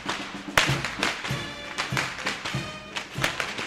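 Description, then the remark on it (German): Dozens of Karbatschen, whip-like carnival whips, crack again and again through the streets and alleys of Überlingen, Germany, during Fasnacht, sharp, snapping bangs overlapping in an irregular, rapid rhythm, some louder than others, with no one talking. “Der Überlinger Narrenmarsch hallt durch die Straßen und Gassen und das dutzendfache Knallen der peitschenähnlichen Karbatschen.”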